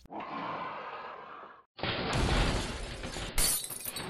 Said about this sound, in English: I think Bowser just crashed into the castle.